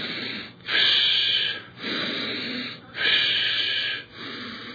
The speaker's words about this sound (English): You see, nephesh indicates the dependency of soul upon spirit, because nephesh is the noise that a person makes breathing, really, you see. And you start by breathing in and breathing out.